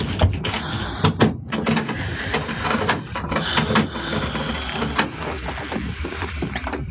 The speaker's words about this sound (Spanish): Tatake sale del sótano, cerrando bien la puerta con llave